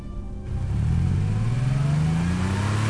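A car engine revs up and accelerates as it chases another car, its low growl rising steadily in pitch as it gains speed, loud with no voices over it.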